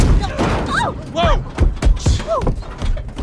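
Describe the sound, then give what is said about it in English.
A person dressed as a caveman slams down onto a car hood with several heavy thuds and bangs, mixed with short shouted vocal cries rising and falling. “An astronaut knocks on their window before a caveman lands on their hood.”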